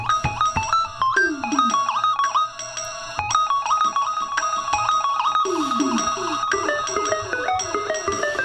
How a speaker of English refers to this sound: Not even when the haunting melodies started to flow from it. Amid all those beeps.